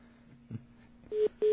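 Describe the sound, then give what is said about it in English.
Two short, clear telephone hold beeps on a call to a German phone, sounding in quick succession near the end while the call is on hold during connection, rising above a faint, steady low line hum with no one talking. “It's a hold beep.”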